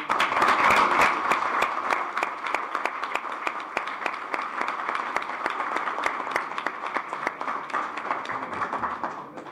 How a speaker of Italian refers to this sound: Perciò chiederei un ringraziamento con un grosso applauso.